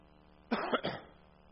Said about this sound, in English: I'm going to do my best to not cough today. However, I may renege on my promise. I've been coughing for 14 days straight, and I'm getting a little sick of it, but it has not gotten sick of me.